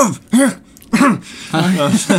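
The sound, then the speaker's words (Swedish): A person tries to cough out the word "objection", making three short, loud, voiced cough-like bursts, the last one longer and more drawn out. “Det funkar liksom inte att hosta det ordet.”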